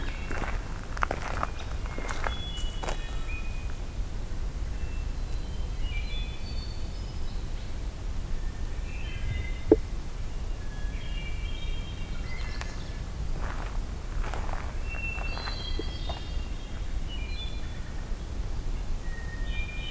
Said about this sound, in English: Beginning to think this mix of hermit thrush and dark-eyed junco is kind of a signature sound of Allegheny.